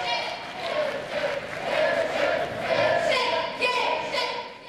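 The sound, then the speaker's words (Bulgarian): A crowd applauding Mr. Geshev steadily for several seconds, a dense wash of clapping mixed with shouts and murmuring voices, holding at a fairly loud, even level throughout. “Господин Цацаров, аплодисменти за господин Гешев.”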